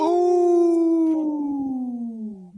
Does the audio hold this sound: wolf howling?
yes